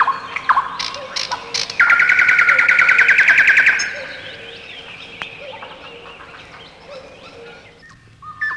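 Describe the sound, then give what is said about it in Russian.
Birdsong outdoors: a loud, rapid warbling trill from a nightingale bursts out for about two seconds, while fainter repeated cuckoo calls continue quietly in the background. “Кукушки с соловьями радость детства. Послушайте родные голоса, они любимой родины наследство, лишь ими живы русские леса.”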